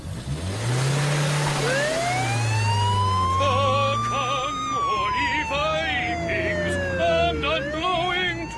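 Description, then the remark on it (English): A police car siren wails, sweeping up and then slowly down in pitch, with quick warbling yelp bursts layered on top, all over a steady low engine rumble. “Just for that, I'll put the flashers on.”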